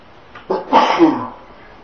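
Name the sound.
sneeze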